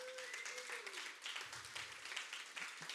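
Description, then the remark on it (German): A single person clapping at a steady pace, the claps fairly soft and running together into a continuous patter, with a faint murmur of voices in the background. “Danke, eine Person klatscht für mich.”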